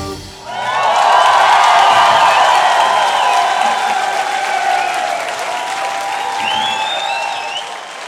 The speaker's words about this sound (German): Vielen Dank dafür! Applaus.